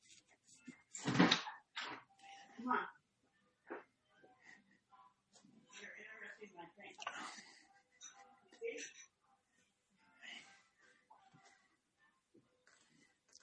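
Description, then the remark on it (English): A door is opened to let a puppy out, with a sharp clunk and rattle, followed by scattered bumps, shuffling and faint murmuring voices. “So wait, can we pause for a second and let this puppy out?”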